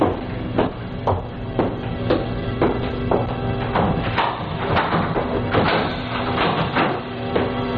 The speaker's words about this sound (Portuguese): Alguém está batendo na porta da frente. Eu, com licença.